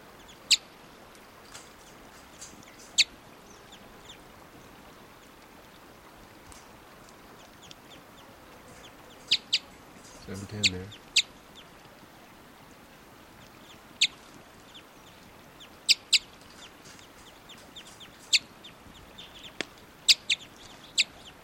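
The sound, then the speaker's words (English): A pair of wild birds give short, sharp clucking type 2 calls at irregular intervals over a quiet, hissy background, with one slightly longer, fuller burst partway through. No one speaks. “Wild birds are type 2 at 7:10.”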